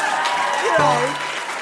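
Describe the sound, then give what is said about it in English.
A crowd claps steadily, rhythmically and loudly for a moment, the sound filling the whole clip, while a voice briefly rises over the applause partway through. “I started to hear some rhythmic clapping.”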